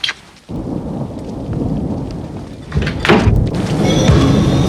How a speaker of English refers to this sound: stumbles in the torrential rain up to his front door.